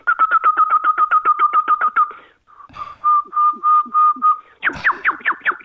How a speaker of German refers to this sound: Aber da kann sie 240 Variationen machen. Also ein einzelner Nachtigallenhahn hat bis zu 240 verschiedene Strophentypen. Das ist unglaublich, oder? Das ist ja 240. Schön. Das heißt, sie scheinbar niemals wiederholen.